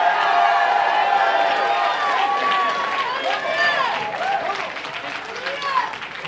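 A large crowd at a religious gathering claps and cheers in response to a call to clap their hands one more time, with shouts and whoops rising over steady, dense applause that stays loud throughout and eases slightly toward the end.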